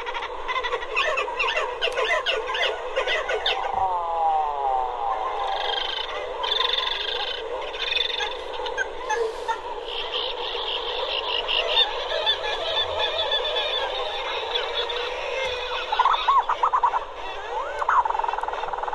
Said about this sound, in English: Are great sounds of birds that have been at sea for most of the year and then come and cram themselves onto these cliff-like rocks in the ocean to breed, some of them standing shoulder to shoulder, and they are loud and vociferous and social